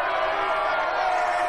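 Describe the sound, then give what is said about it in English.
A crowd surrounding a shop stall, cheering and calling out while posing for pictures with a football team captain, in a steady, dense wash of voices, with no single speaker standing out and no pauses through the short stretch. “Graham's mom beams as a crowd now surrounds her stall posing for pictures with Graham.”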